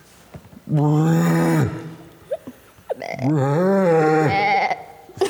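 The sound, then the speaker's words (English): A person imitates a rhino call with two drawn-out, strained, bleating vocal groans, loud, separated by a short pause with small breathy noises. “But I think that is closer to what a rhino actually sounds like.”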